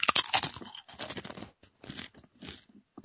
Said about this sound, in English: I'll just chew on some chips while you're giving me advice.